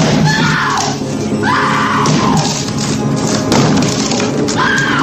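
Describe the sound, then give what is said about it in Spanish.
In a film scene, Jack Nicholson's character tries to batter down the bathroom door where his wife and son are hiding: heavy, repeated thuds pound at a steady pace while a woman screams in rising, panicked wails, loud throughout. “Nicholson, achamano, intenta derribar la puerta del baño donde se esconden su mujer y su hijo.”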